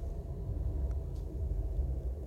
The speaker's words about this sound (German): Die Straßenbahn hat ihn verstanden. Ich hoffe, man hat es auf der Aufnahme gehört. Das war ein besseres Grillenzirpen. Ja, das war wirklich eine Art, besser als Grillenzirpen eigentlich.